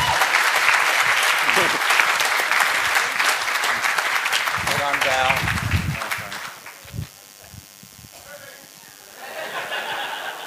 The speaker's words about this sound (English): Well done. Give her a clap.